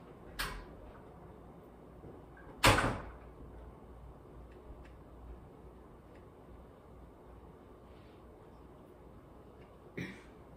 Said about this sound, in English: Make sure you lock the door. I will.